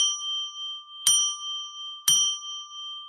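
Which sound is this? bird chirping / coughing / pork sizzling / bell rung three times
bell rung three times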